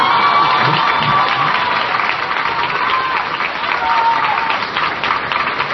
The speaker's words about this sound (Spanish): Así es rete fácil pasar por bueno. Todo lo que uno dice se aplaude. Y entonces, pues denle un aplauso